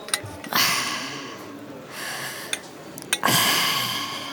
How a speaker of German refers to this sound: Atmen Sie mal tief ein und aus. Ich gehe mal mit meinem Stethoskop hier ran.